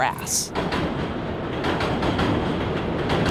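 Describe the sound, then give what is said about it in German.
A train rattles loudly and steadily across the elevated Williamsburg Bridge, high above a former sugar factory in North Brooklyn, its rhythmic metallic clatter and rumble filling the whole moment. “Ein Zug scheppert über die Williamsburg-Brücke hoch oben, über der ehemaligen Zuckerfabrik.”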